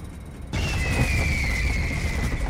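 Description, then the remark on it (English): A sudden heavy boom cuts in as a plane shudders and its lights flicker, swelling into a loud, sustained shuddering rumble, with a thin high whine sliding slowly downward above it. “Then, suddenly, the plane shudders, the lights flickering.”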